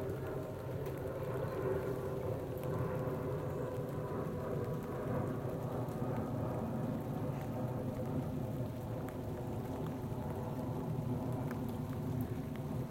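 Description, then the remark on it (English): Steady rain falls outdoors in a continuous, dense hiss, with a deep low rumble underneath like thunder, some of the rain falling into a cup of tea. The sound stays even throughout, with no voices. “I'm just going to shut up now and finish my tea because it's getting really cold because of the rain that's going into it.”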